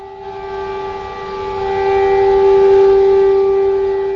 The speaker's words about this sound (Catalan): Israel paralitzada. Al carrer Betzalel, un dels més concorreguts de Jerusalem Oest, desenes de conductors aturen els motors dels cotxes, surten a la via i fan dos minuts de silenci. Tot s'atura. L'únic que se sent són les sirenes antiaèries